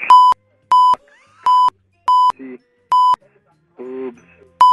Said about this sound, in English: Beep, beep, beep. End of message.